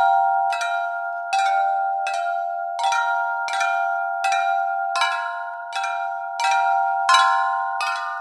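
A six-year-old elephant named Fong strikes the metal bars of a xylophone-like instrument, built at a metal shop in Lampang, about a dozen times in an uneven, unhurried rhythm, each bright bell-like note ringing on and overlapping the next. No voices.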